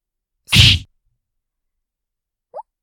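punch hitting a face

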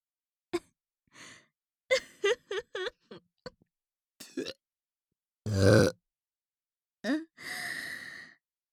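burp

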